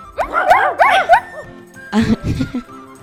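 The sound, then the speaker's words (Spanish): A rapid burst of high, yelping dog barks and yips, then a few lower, gruffer woofs, fairly loud, as a dog starts running in a park after hearing a cat; they may come from a voice imitating a dog. “El perro comenzó a correr y ladrar.”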